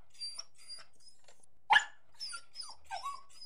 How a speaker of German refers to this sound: Der Hund antwortete. Das war Hundesprache und bedeutet, na klar müsste ich mit euch spielen.